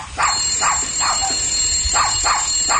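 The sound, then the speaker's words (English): Uggy, a small dog in a film clip, barks in two quick bursts of three sharp, high yaps, with a short pause between sets, over a steady background hum. “That's Uggy barking there.”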